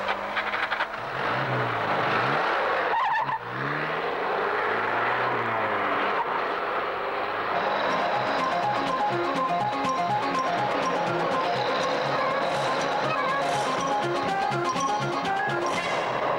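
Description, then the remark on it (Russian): A car engine roars loudly and steadily, its pitch sweeping up and down as the car speeds toward the Vyborg highway, accelerating to escape pursuit and shifting, with a dense, rumbling drone throughout and no voices. “Машина движется в сторону Выборгского шоссе.”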